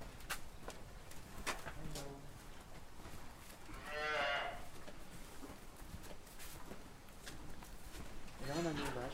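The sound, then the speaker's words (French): A cow on a farm, the oldest of the herd, named Brodeuse and going on 15 years old, moos several times against a busy outdoor background, with a long, loud bellow in the middle and another harmonic call at the end. “plus vieille vache du troupeau.”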